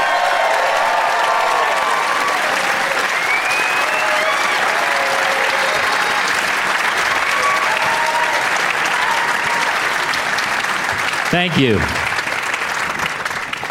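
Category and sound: crowd, audience applause and cheering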